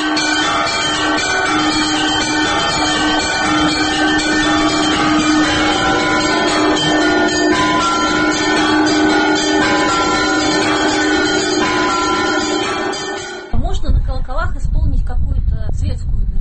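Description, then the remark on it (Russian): Loud church bells ring in a dense, continuous peal, many overlapping tones sustaining for about thirteen seconds before cutting off abruptly, after which a voice is heard. “Здесь уже зависит от того, какие колокола.”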